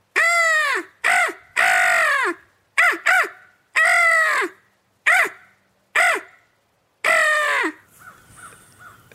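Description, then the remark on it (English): A voice imitates crow calls to try to call crows in, about nine loud, harsh caws delivered in irregular bursts, some drawn out and some clipped short, followed by faint rustling at the end. “Try to call those crows in.”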